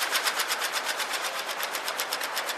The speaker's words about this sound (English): jumbo displays of cascading letters and numbers that had this kind of waterfall effect to them as you looked at them from top to bottom, but also had this amazing, very, very distinctive fluttering sound to them as the information changed on them.